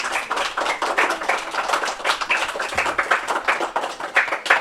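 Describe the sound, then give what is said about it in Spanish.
A round of applause from a group, many hands clapping in a dense, steady patter that holds at an even level for the whole stretch, with no voices over it. The applause is for children who remembered the books written by Rosalía. “Oye, pues un aplauso, que se acordaron todos los libros que escribieron.”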